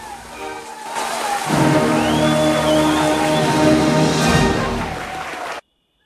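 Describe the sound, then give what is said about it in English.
A crowd stands and bursts into loud, sustained applause that swells in after a quiet moment and holds steady for several seconds over soft music before cutting off abruptly. “The crowd stand and applaud.”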